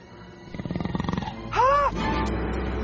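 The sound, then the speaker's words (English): A cheetah growls in a rapid, rhythmic pulsing rumble, then lets out a short, high arching yowl before fading into a rough, breathy noise, fairly loud. “Now, cheetahs are another story. We're gonna die.”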